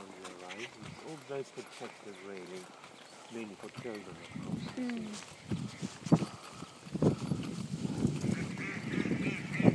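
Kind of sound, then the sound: bird, duck quacking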